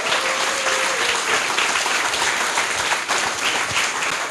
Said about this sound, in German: Dankeschön. Großen Applaus.